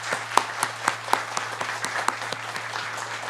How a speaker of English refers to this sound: So let's go ahead and give them a round of applause.